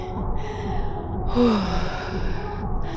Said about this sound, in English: Look at you panting and twitching.